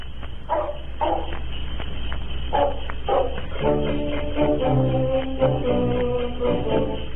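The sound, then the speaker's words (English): Several sharp barks of sled dogs ring out in quick pairs, then bouncy band music enters and carries on with more faint yips mixed into the tune. It is a band playing Eskimo music with barking sled dogs on an old radio program sponsored by Clico Club ginger ale, sounding like an old, muffled recording. “which was a band which played Eskimo music, including barking sled dogs.”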